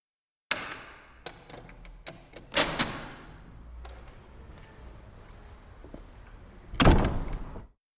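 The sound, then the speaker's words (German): Doors open and close: a thunk, a few sharp latch clicks, a heavier rattling swing, then a loud final slam after a quiet pause. No voices. “Take four. Türen.”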